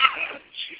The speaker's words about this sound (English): Bless you.